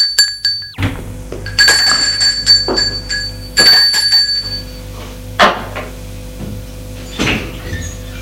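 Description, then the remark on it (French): A front-door doorbell rings one afternoon with a bright, sustained chime, followed by several louder clunks and rattles like a door being handled, some carrying brief metallic ringing tones. “Un après-midi, on a sonné à la porte d'entrée.”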